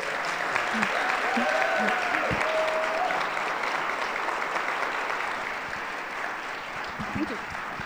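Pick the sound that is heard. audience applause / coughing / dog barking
audience applause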